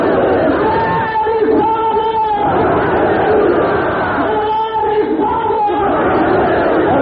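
A large crowd chants in unison the response to the Nara-e-Risalat slogan, loud sustained voices rising and falling in two long rhythmic waves that fill the whole clip.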